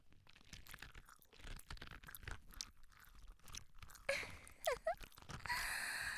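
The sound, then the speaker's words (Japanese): Pre-recorded gum chewing played right beside the listener's ear: close, wet chewing with sticky smacks and clicks repeating in an uneven rhythm, ending in a few sharper, squelchy pops and a brief breathy hiss. “どうですか、事前に録音しておいたガムの咀嚼音を彼氏くんの耳元に聞かせてあげてるんですよ。”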